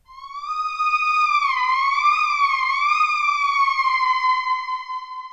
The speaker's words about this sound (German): Das heißt, die Töne werden nicht klar voneinander getrennt, sondern ja, die ziehen sich so ineinander rein. Bevor wir das hören, habe ich da mal auch ein Beispiel für Pitch-Bending. Ja, wenn die Töne also so ineinander schleifen.